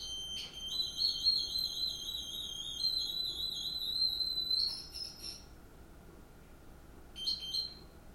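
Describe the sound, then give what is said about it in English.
A high electronic tone from a device sounds steadily for about four seconds while a lever is pressed, then two short beeps follow after pauses, over faint background noise with no talking. “So, I'm going to press the lever again until I hear it start beeping.”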